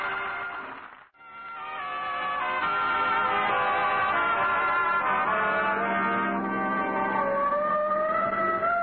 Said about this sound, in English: Oh, the siren. Now, that's on our car. I put it on this morning.